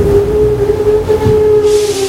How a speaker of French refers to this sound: Tout d'un coup, le métro s'est arrêté. Le métro a freiné brusquement et déséquilibré les passagers qui se cognent les uns aux autres,